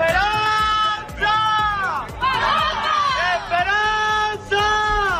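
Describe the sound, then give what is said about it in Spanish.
On Good Friday in Seville, a crowd outside the church doors shouts to the Esperanza de Triana shut inside and throws flower petals. Many raised voices overlap in long, wavering calls that swell and break in waves, loud and continuous with only brief dips. “Pero esta vez ha habido que gritarle a una Esperanza de Triana encerrada. La gente se arremolinaba a las puertas de la iglesia y lanzaba pétalos de flores porque el mal tiempo les ha dejado a ellos y a toda Sevilla sin madrugar.”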